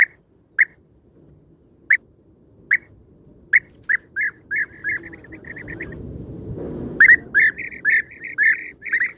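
European roller calls: harsh, clipped notes at first about a second apart, then quickening into a rapid run that breaks into a louder, raucous chatter over a low background rumble.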